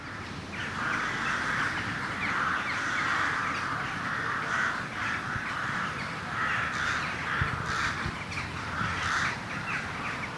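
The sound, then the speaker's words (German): A large flock of rooks caws continuously at dusk at Soest railway station, Germany, as they return from foraging, many harsh overlapping calls forming a dense, raucous chorus that fills the scene without pause. No one speaks. “Aber auch in dieser Jahreszeit kommen die Saatkrähen mit Einbruch der Dämmerung zurück von ihrer Futtersuche aus der Soester Börde. Dann klingt es hier am Soester Bahnhof so.”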